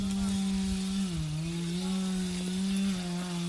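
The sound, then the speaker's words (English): A chainsaw cutting trees drones steadily throughout, its buzzing engine pitch sagging briefly as if biting into wood, then recovering, with no one speaking. “In some areas where it's it's not that steep, they use chainsaws.”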